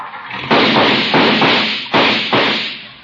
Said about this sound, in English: My, my, what a noisy car. Goodbye, Judge. Why don't you bring it to the park on the 4th and we'll use it instead of firecrackers?